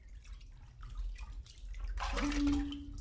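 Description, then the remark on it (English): Water splashes in a bathtub as a child is bathed and rinsed: a few soft, irregular sloshes, then a louder steady rush of pouring water with a faint low hum underneath, lasting to the end. “Is the water okay, baby? Is it not too cold? Not too hot?”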